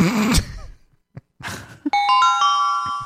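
A doorbell chimes a ding-dong starting about two seconds in, bright sustained tones ringing out loudly, preceded by a groan-like voice and a breathy sigh.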